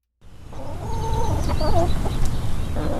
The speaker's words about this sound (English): Four chickens snack on a treat of dried mealworms